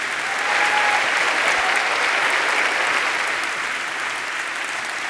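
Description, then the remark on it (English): A crowd claps steadily for about five seconds, a dense, even wash of hand claps that stays loud throughout with only a slight easing toward the end. “yeah, you can give him an applause for that.”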